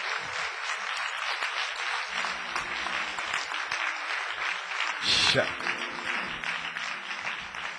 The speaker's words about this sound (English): Why don't you put your hands together and give God the best hand clap you have?